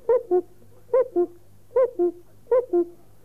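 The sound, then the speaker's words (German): A cuckoo calls four times in quick succession in a forest on a sunny day, each a clear two-note 'cu-coo' dropping in pitch, repeated at a steady rhythm, over a faint low hum. “Sogar den Kuckuck hörte man.”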